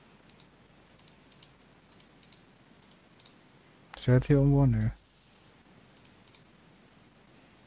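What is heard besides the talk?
computer mouse clicking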